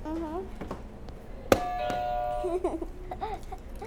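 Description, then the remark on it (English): A single press of a buzzer: a sharp click followed by a steady, mid-pitched electronic tone lasting about a second, with voices talking before and after it. “Can you hit another buzzer?”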